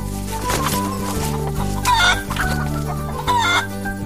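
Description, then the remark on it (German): Several hens cluck and squawk in short, busy bursts, fairly loud, with a couple of sharper peaks, over a steady low droning background. “Oma sagt, Hühner darf man nicht alleine lassen. Sie hören auf zu legen, wenn niemand mehr für sie da ist.”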